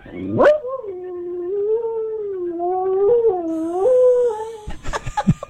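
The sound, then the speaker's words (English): A dog howls along to the theme of CBS Sunday Morning on TV, one long, wavering howl lasting about four seconds, its pitch rising and dipping in steps, before breaking into short yips at the end, with a faint high tone underneath. “our dog has to watch CBS Sunday Morning on Sunday mornings so she can sing along.”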